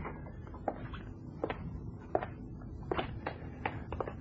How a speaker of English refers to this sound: Well, the sound of your footsteps